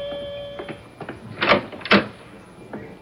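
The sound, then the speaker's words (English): A front door is opened for a visitor: a few light clicks of the latch, then two sharper clunks as it swings and knocks, over a faint steady room hum. “Oh, someone's at the door. I'm coming!”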